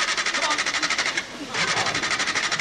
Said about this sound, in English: A stalled, poorly maintained car as a metaphor for this country's crumbling infrastructure.